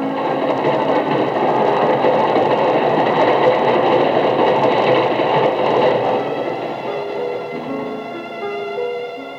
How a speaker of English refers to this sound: There's your train.